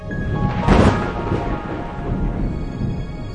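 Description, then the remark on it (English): A deep rumble of thunder from a thunderstorm rolls through, swelling to a loud crack-like peak early on and then fading into a low, steady grumble with a hiss of rain-like noise. “Thunderstorms generate what may be nature's most impressive displays, lightning.”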